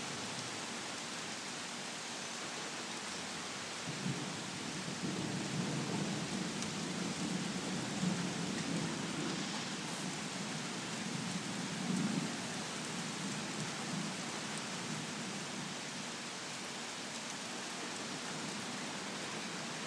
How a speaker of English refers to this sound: Still thundering and stuff.